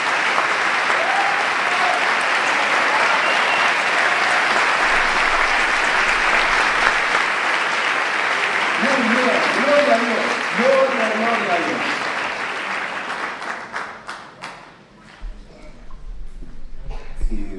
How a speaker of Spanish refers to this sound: ¿Qué les parece la obra de Dios? Un aplauso para crear. Adelante, arriba, un aplauso, adelante.